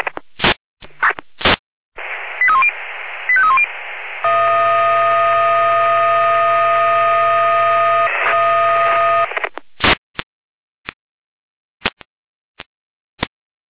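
Radio dispatch alerting tones alerting a fire brigade unit (Florian Dornburg) to a garden shed fire in Dornburg: a crackly radio burst with short chirping tone blips, then a loud, steady multi-pitched tone held for about five seconds, bracketed by sharp clicks and pops.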